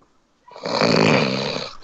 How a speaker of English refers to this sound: He's just snoring.